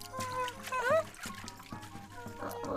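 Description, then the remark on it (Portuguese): Water is poured into a small container for a little bird to wash its wings, a short gurgling trickle whose pitch rises briefly as it fills, followed by light splashing and dribbling. “Olha, tá aqui a água pra te lavar as asinhas.”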